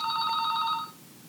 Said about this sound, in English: Ah, my telephone's ringing. Hang on.